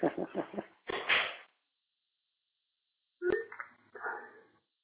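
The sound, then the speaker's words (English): A dog gives a few short barks and yelps in two separate bursts with a pause between, sounding thin and muffled as if over a phone line. “That wasn't my dog.”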